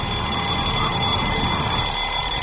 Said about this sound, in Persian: در حالی که یه صدای خنده ترسناک تو گوشتون پیچیده، یه صدای یه مقدار آزار دهنده ولی آشنا شما رو به خودتون میاره. صدای زنگ ساعته.